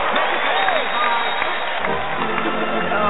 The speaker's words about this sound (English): I got clapping in the background. How nice! Thank you guys.